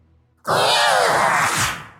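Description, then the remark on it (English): A person imitates the loud, guttural roar of a massive creature at a city's gates, bursting in suddenly after near silence and holding for about a second and a half, rough and growling, before tapering slightly at the end. “You can hear chomping from the one that is feasting, and the one at the gates lets out a loud roar.”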